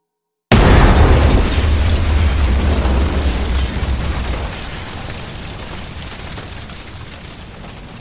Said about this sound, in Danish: Den brune kuvert indeholdt en brevbombe så kraftig, at da han åbnede kuverten, blev han blæst bagover med voldsom kraft. Så voldsom, at hans hoved og hænder blev revet af.